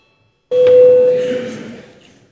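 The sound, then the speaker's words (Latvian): A single bright electronic bell tone rings out abruptly in a parliament chamber, holding steady for about a second before fading into the reverberant hum of the chamber. “Lūdzu zvanu.”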